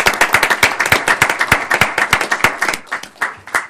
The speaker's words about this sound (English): May we applaud? Yes, absolutely.